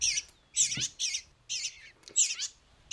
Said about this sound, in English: So these are two eastern bluebirds. Their parents were killed by house sparrows.